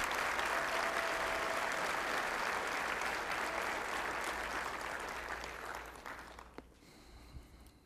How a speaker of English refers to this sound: So I think that speaks well of Temple Baptist, and I'd like to give the Lord a clap offering on their behalf.